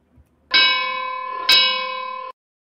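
A bright, metallic bell struck twice about a second apart, each clang ringing on with a sustained tone before cutting off abruptly, loud, with no talking.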